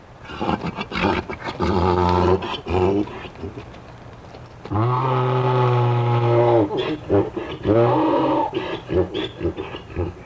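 A mule brays loudly in several long, harsh bursts with brief pauses between them, the hee-haw calls rising and falling, and no one speaking; the mule is calling out to its companion mule as it disappears from view about half a mile away.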